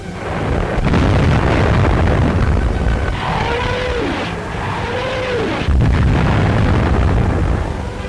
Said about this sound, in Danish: V1 und die Feuergeschosse der Nebelwerfer bringen plötzlich Vernichtung in und hinter die feindlichen Linien. Hunderte von Batterien aller Kaliber tragen den Tod in den Feind.